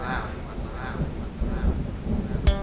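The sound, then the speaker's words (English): Steady rain hisses over a deep, continuous rumble of thunder, with a sharp crack bursting through near the end, fairly loud. “Notice how the rain and the thunder comes down, oh so naturally.”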